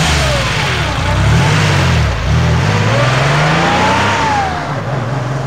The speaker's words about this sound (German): Da fahren jetzt zwei Wagen los. Ja. Und guck mal, bei dem einen fällt hinten die Stoßstange.